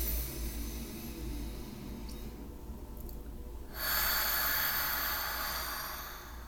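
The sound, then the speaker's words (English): During a guided breathing exercise, a long, airy inhale through the nose, a brief pause, then a loud, breathy exhale through the mouth that whooshes out for a few seconds, with no talking. “Nice big deep breath in through the nose. Nice big long loud exhale through the mouth.”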